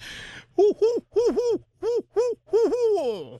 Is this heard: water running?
no